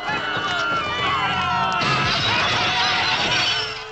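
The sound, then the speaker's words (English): Glass smashes as a chair crashes through a storefront window, a sharp shattering burst partway through a loud, chaotic scene with running feet and crowd shouting all around. “A chair crashes out of a storefront window.”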